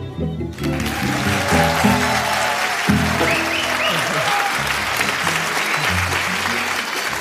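A live audience at an event about beer claps and cheers steadily for several seconds, a dense, loud wash of applause with some whoops, and a few low musical tones underneath.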